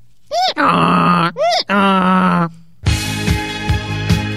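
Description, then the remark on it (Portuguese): A donkey brays loudly, with harsh, harmonic hee-haw cries alternating in two long cycles, followed by a rougher, noisier stretch with a few rhythmic pulses. “Você sabe como se chama o som emitido pelo burro?”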